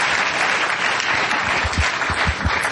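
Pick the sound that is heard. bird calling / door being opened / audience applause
audience applause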